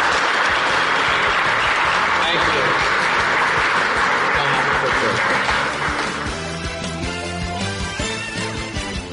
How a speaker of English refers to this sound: Let's give a big round of applause to David Stern. Thank you, David.